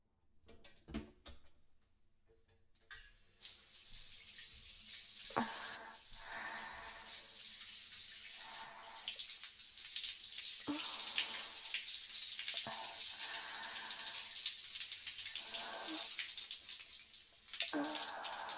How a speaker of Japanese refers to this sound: まずは頭から洗いますね。シャワーで髪を濡らします。目を閉じてください。